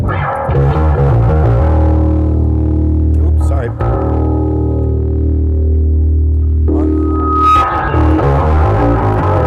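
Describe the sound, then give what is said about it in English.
A loud guitar with distortion blended with a clean tone, played on the low pickup, sustaining thick, buzzing low notes that shift pitch a few times, with a brief spoken apology partway through. “What's doing is it's got the distortion and the clean tone together.”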